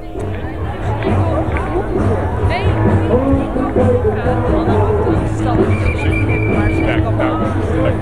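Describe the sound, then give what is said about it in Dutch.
A large outdoor crowd streaming onto the Malieveld for a demonstration, with hundreds of buses arriving, fills the air with a steady, dense murmur of many voices, with scattered louder calls and traffic-like rumble underneath, continuous and fairly loud throughout. “Het begint aardig vol te stromen.”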